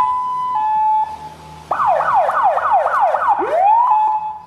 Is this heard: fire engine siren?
yes